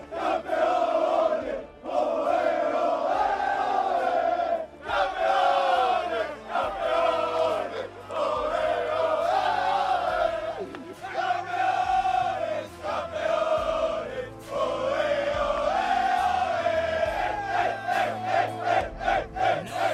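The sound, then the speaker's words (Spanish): A packed stadium crowd celebrates loudly after the final whistle as Atlético de Madrid win the championship, thousands of voices roaring and chanting together in sustained, swelling waves with only brief dips, filling the whole stretch without a break. “Tras el pitido final, llega la explosión de alegría y una de las mayores sonrisas que le hemos visto a Simeone en años.”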